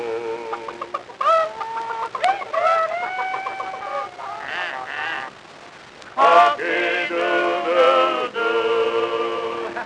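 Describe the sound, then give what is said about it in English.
A voice imitates chickens clucking and a rooster crowing, with a run of choppy, high clucks followed by a louder, drawn-out crowing call, fairly loud with no other talk. “And the chickens and the roosters, they go.”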